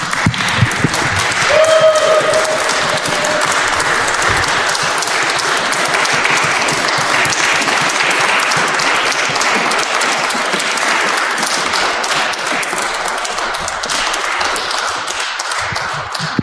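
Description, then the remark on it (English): Loud, sustained audience applause welcoming singers and a pianist at a concert, a dense wash of many hands clapping steadily for over fifteen seconds with no letup, a faint whistle-like tone briefly audible early on. “Before I make more announcements, I would like you to welcome our singers and our pianist with some loud applause, as loud as you can, please.”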